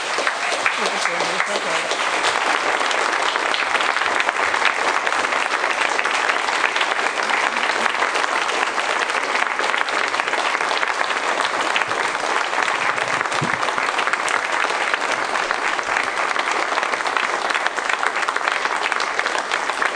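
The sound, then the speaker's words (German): Sustained applause from a large crowd as flowers are presented during a religious service, a dense, steady patter of clapping that stays loud and even for the whole stretch without fading. “Bitte schön, Blumen für Sie und ich glaube, ein großer Applaus auch.”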